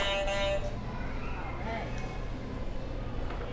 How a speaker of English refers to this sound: Good job, you can hit another buzzer.